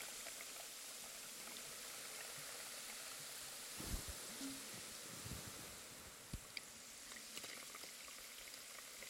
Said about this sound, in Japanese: シュワシュワパチパチ。すっきりするじゃろ。